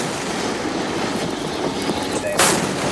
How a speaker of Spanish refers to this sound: Pues la cosa ha acabado como oyes, a cañonazo limpio y con la sala de máquinas del carguero iraní inutilizada.